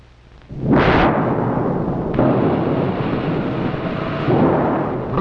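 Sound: thunderstorm sound effect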